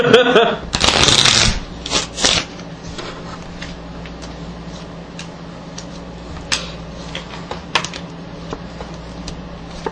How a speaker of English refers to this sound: Shuffling the cards, he places the Joker on top of the deck.